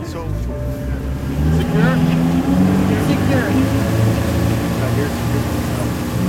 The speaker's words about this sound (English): And we're off. The motor is powerful, and the boat goes at a fast clip. It has to, because it's often used for marine mammal rescue emergencies.